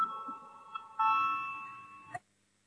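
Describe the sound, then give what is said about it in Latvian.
A two-tone electronic chime, the voting call bell in a parliament session before a vote on a proposal, rings out clearly, a first tone followed by a longer sustained second tone that fades before cutting off, with no voices present. “Lūdzu, zvanu balsosim par 11. Juridiskā biroja priekšlikumu.”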